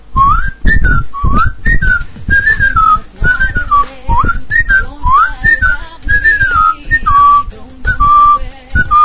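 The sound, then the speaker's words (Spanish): A person whistles a jaunty, bouncing melody, the theme tune that opened a comedy duo's short films. The notes hop and slide in a playful rhythm for several bars, with no talking over it. “que era que adivinaran de qué película le íbamos a hablar con la musiquilla. Pero bueno, se la vamos a silbar un poco, porque sobre todo a nuestros oyentes que tengan ya cierta edad le resultará muy conocida y les traerá muy buenos recuerdos.”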